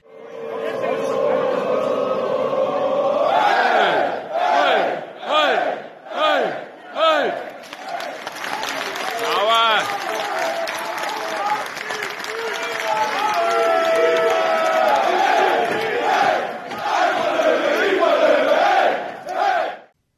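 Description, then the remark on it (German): A large crowd of Löwen football fans chants loudly in a stadium, taken from the audio track of a fan video, with rhythmic bursts of shouting rising and falling, followed by a sustained roar of many voices singing and cheering together. “Also mir wurden dann noch Videos zugesendet und ich glaube, wir können die Tonspur auch sicherlich hier gleich reinschneiden.”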